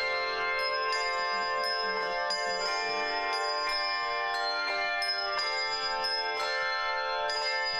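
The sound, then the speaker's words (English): Bright handbells ring in a steady series of overlapping strikes, each tone sustaining and blending into a shimmering, continuous wash of chiming pitches, loud with no voices. “Handbells soon became very popular as performance instruments and are still widely used today in churches and schools.”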